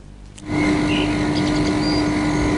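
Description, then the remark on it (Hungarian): A mobile phone transmitter tower in the 17th district, Rákoscsaba, near Szigetcsép and Edző streets, hums steadily, a loud, unbroken drone with a constant low tone running through a broad whooshing noise, starting abruptly after a quieter moment and never changing. “Folyamatosan ezt a zúgást kell elviselniük a 17. kerületi Szigetcsép és Edző utca környékén élőknek.”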